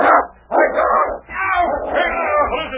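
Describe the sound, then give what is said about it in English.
A dog named King snarls and barks ferociously in continuous bursts, growling aggressively as it lunges at and attacks an intruder, loud with only brief pauses between outbursts. “Now that dog will tear you to pieces.”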